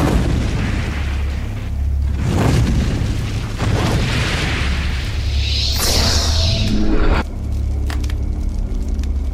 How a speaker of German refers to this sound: Ein Feuer, was heißer war als 1000 Sonnen, begann das Haus zu umhüllen.